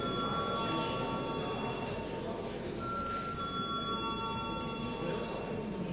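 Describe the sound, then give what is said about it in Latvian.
A parliament voting bell in the Saeima rings continuously for several seconds, calling deputies to vote on a bill in its first reading: a steady, loud, buzzing electric tone with high metallic overtones and no break in the sound. “Lūdzu zvanu.”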